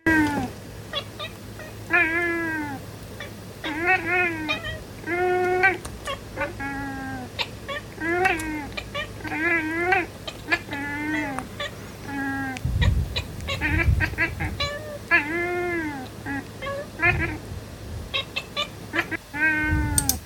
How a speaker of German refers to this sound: Wir hören mal ein bisschen zu, wenn zwei Katzen einen Podcast machen, wie sich das anhören könnte.